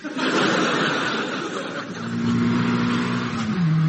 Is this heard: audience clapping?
no